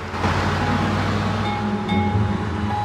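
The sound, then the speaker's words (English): A police car speeds away: a loud, steady engine roar with a broad rushing noise of tyres and air, continuous for a few seconds, with no voices. “then the police car speeds away.”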